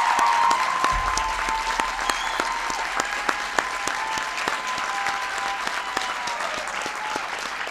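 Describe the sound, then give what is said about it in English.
A crowd breaks into steady applause for Congressman Tom Cole, dense overlapping claps that hold at an even, fairly loud level throughout with a few sharper claps standing out, and no one speaking over it. “Give Tom a big round of applause.”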